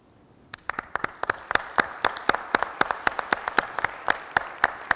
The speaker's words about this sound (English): so let's real quick applause for them.